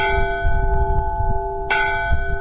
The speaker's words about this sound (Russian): Есть колокол яркий, с таким светлым, летящим, радостным тембром.